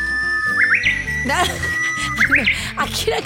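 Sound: japanese bush warbler singing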